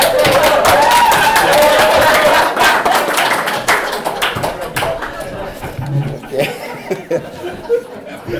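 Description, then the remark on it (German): A crowd applauds loudly and steadily with some cheering mixed in, then the clapping thins out over several seconds into a few scattered claps before fading. “Ja, super. Applaus.”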